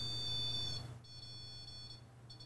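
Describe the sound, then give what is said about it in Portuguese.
A sensory ball device gives off a shrill, high-pitched electronic beeping tone in long sustained bursts broken by short gaps, over a steady low hum, with no one talking. “Nós chamamos de bolinha sensorial, tá, né?”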